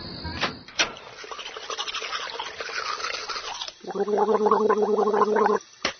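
Splashing and rinsing of water as someone washes their face, followed by a couple of seconds of steady bubbling gargling, then a brief final splash.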